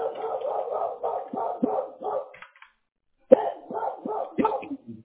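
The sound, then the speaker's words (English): Dogs bark in the background in quick, repeated volleys, a steady run of yaps, a brief pause, then another flurry of barking, moderately loud. “Hear the dogs in the background.”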